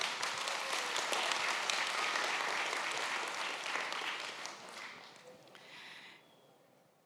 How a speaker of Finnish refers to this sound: J.K. Ihalainen, aplodit Jyskylle.